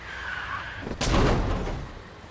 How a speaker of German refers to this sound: Eine Straßenatmo. Diese Atmos setzen sich aus Soundsignals zusammen. Auf der Straße fahren Autos, Passanten gehen vorbei. Und es passiert ein Autounfall.